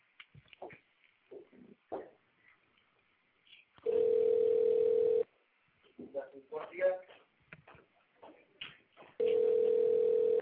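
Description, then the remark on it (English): A steady, loud telephone ringback tone sounds twice as callers are added one by one to a phone line, each burst lasting over a second with a gap of scattered talk and noises between them. “I'm just adding everybody one by one here, so forgive me, but you're going to hear some ringing.”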